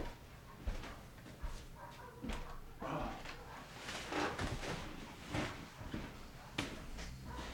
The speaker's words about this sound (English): My little dog's getting mean.